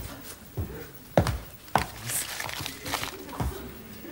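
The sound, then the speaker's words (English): Paper rustles and crinkles, broken by a few sharp crackling snaps at uneven intervals as birthday wrapping paper is handled and scrunched, with faint low murmuring underneath. “You take this wrapping paper and you get me something good or else.”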